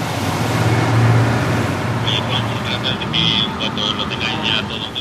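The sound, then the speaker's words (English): A steady low engine rumble with rushing water and wind noise as officers' boats motor across the sea and slow down while approaching a fishing dhow; a faint high whine flickers in partway through. “The boats have now slowed down on the water, and I can see the officers are getting onto the fishing dhow.”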